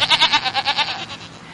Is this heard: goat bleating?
yes